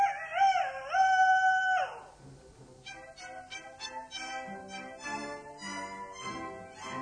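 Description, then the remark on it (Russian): A single loud rooster crow rings out outside a window for about two seconds, rising and then holding its harsh cry, before quieter plucked music takes over. “За окошком снова прокричал петух.”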